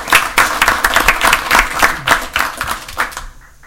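A group of people at a meeting applaud to thank someone for six months of leadership, with steady, overlapping claps for about three seconds, fairly loud and dense. Then the clapping thins out and fades quickly.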